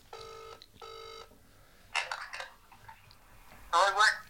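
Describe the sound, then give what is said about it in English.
A phone line's ringback tone sounds twice in a quick double burst, followed by a person's voice speaking briefly as the call is answered. “It's ringing.”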